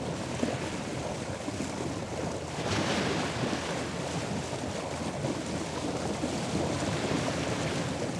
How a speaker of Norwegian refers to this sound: Tenk deg at du er ute og kjører båt på havet på en vindfull dag. Kjører du i samme retning som bølgene, nesten like fort som de brer seg, går det lang tid mellom hver gang bølgene slår mot skroget.